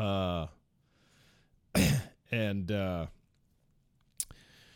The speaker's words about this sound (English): A little bit of the phlegm still going on. So I might have to clear my throat from time to time to get that mucus out, to clear the pipes, as it were.